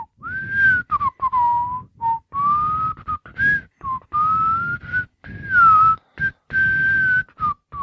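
A person whistles a jaunty tune up close, the clear pitch gliding through a string of short phrases separated by brief pauses, with a soft breathy rumble underneath.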